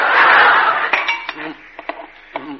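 A large wooden spoon scrapes steadily around a bowl of Christmas pudding mixture with fruit and nuts, with a loud, rough swish, then gives way to a handful of light, uneven knocks and clinks against the bowl's side.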